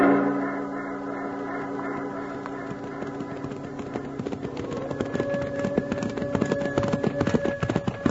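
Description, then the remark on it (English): Horse hooves clip-clop in a quick, steady rhythm as riders give chase on a mountain, growing busier and louder as the ride goes on. Sustained droning tones sit underneath the hoofbeats. “Let's grab our horses and light out after it.”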